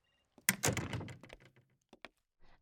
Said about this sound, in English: Should I shut the door behind myself? Okay.